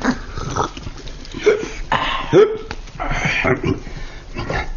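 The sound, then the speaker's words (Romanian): A voice imitates hiccups: three short, sharp, squeaky gulps spaced a second or so apart, fairly loud, with breathy vocal noise filling the gaps. “Nu știam că sughiți, zice prefectul.”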